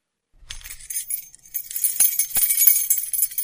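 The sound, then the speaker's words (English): A bunch of keys jangles and clinks, a bright metallic rattle that starts after a brief silence and keeps shaking steadily, growing busier toward the end, with no voices. “Do you have keys? Oh, just a few.”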